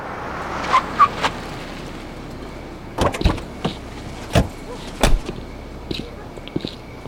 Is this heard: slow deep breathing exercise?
no